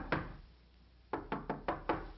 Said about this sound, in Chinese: 管家，看谁在敲门啊？